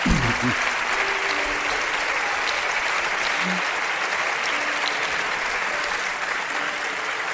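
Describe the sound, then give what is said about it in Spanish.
Steady, loud audience applause for Hugo Semolón and el Jaguar Blanco fills the whole stretch, a dense wash of many hands clapping with no break, with only a faint murmur of voices underneath. “Os pido un aplauso a Hugo Semolón y el Jaguar Blanco.”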